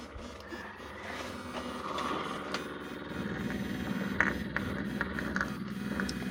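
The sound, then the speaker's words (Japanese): A vibrator buzzes steadily at a low pitch, its droning hum thickening and growing rougher about halfway through, with faint rustling over a continuous mechanical whir and no voices. “じゃあ今エッチな音が鳴ってるバイブの方を聞いてもらうね。”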